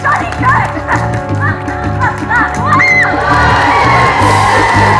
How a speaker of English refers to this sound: I'm not sure why you're cheering quite so enthusiastically, girls of St. Trinian's.